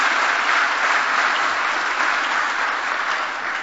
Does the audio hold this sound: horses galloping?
no